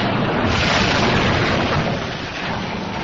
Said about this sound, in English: The ship cracking in two.